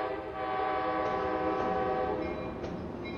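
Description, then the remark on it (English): A train horn blasts one long, steady chord for several seconds, loud, over a low rumble of rail noise at the Sunken Harbor train station on the Long Island Railroad, with no voices present. “Right by the Sunken Harbor train station on the Long Island Railroad, the Stone's Throw Bar and Grill.”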